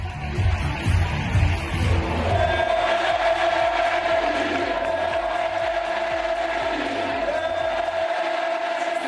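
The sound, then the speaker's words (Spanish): A huge crowd of about 10,000 at the Benito Villamarín stadium roars and chants "Betis, Betis, Betis" in unison to welcome Joaquín, a dense, loud wall of voices with a steady rhythmic pulse running through the cheering for the whole stretch. “Bueno, pues el señor Sánchez Rodríguez, hoy en noticia, es un señor que tiene 38 años y que, fíjense, 10.000 tíos en el Benito Villamarín lo han recibido así.”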